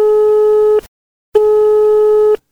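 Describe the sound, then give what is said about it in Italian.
A steady electronic telephone tone of an outgoing call sounds in two loud, clean bursts separated by a short silence, the line ringing with no voices present. “Andiamo a chiamare, vai telefono”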